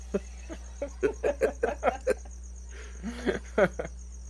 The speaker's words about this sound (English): So we're sitting outside in my backyard. That's why you're hearing the crickets and the dogs and barking. And crickets and chicks and things.